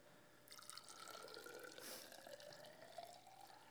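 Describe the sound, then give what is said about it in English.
Water pours steadily into a container, a bright continuous splashing whose tone climbs as the vessel fills toward the brim, with no voices. “God's love is poured into your heart.”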